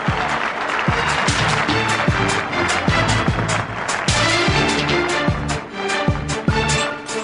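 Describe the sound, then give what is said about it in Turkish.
A crowd, including fans, applauds steadily for several seconds to welcome a performer from Turkmenistan, a dense, loud wash of clapping with cheering mixed in and a regular low thumping beat running underneath. “Türkmenistan'dan geliyor. Alkışlarımızla.”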